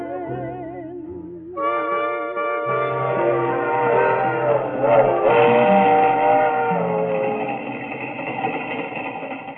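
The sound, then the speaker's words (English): A train rumbles past, its low steady roar building after a brief wavering tone and holding loud and continuous with tonal whines and rattling layered on top. “That's the third one that's gone by.”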